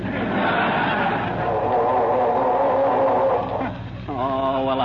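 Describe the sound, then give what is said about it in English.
A car engine grinds and churns as it's cranked, failing to catch, loud; it pauses briefly near the end, then starts whining and cranking again. Someone is trying to get the car started and it won't start. “I'm trying to get this dad-ratted car started, if you must know.”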